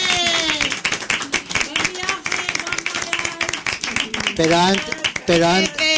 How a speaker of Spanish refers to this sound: Ahora vamos a dar una ovación a las invitadas brasileñas que se van mañana. ¡Ale!